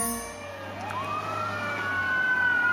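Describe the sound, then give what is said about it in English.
An ambulance siren wails, its pitch sweeping up and holding in a long rising tone, steady over the low rumble of traffic and engine noise, heard from a car racing behind the ambulance as it carries a patient to East Los Angeles, to LA County USC hospital. “Me and my father are in my car racing behind an ambulance, literal ambulance chasers.”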